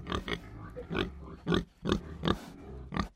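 A pig grunts repeatedly, about seven short, rough snorts in an uneven rhythm, fairly loud, with no one speaking.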